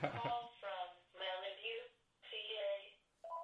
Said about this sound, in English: At the end of the podcast, for this goddamn phone to ring because I never turn it off.